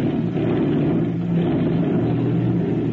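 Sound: airplane engine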